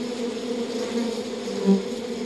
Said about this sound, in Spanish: Mientras revisas cada panal, percibe la delicada forma en que trabajan las abejas. Zumban de colmena en colmena, algunas más grandes que otras.